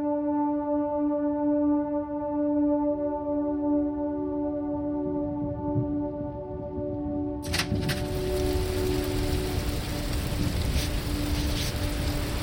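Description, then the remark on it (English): A steady low drone with a hum of rumbling noise gives way midway to a loud, dense hiss of heavy rain pouring down in a raging storm, with no voices. “The storm's really raging out there, isn't it?”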